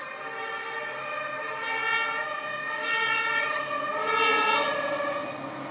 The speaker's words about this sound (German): Das Interessante ist, dass das, was vorhin Tatütata gemacht hat, ist bei Grün über eine Ampel gefahren und hat extra die Dinger angemacht.